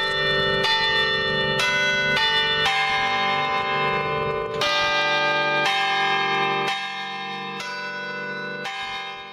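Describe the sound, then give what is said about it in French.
Church bells ring loudly and steadily, a series of overlapping rich metallic strikes roughly every second, each tone sustaining and blending into the next, with no voices present. “Dis-nous Arthur, pourquoi as-tu voulu travailler sur les cloches?”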